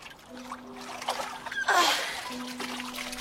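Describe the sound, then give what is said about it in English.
Water sloshes and streams off in a brief splash as a woman climbs out of the water after swimming, then settles into a quieter trickle and drip over a low steady background hum. “She clambers out like an otter, sleek.”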